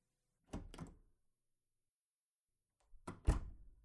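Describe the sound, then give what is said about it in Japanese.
The door of a room, right at the entrance, is opened with a couple of low thunks and rattles, then after a short pause it is pushed shut with a heavier, louder thud. No one speaks. “じゃあ、入ろ。玄関の前に、すぐドアなんだね。”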